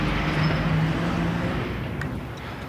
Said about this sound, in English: Garbage truck doing its garbage thing.